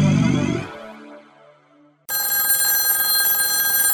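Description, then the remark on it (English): A telephone rings loudly, its bright bell tone fading into a brief gap before a harsh, buzzing ring bursts in and holds steady. No voices are heard. “I know you're new here, but you should pick up the phone when it rings.”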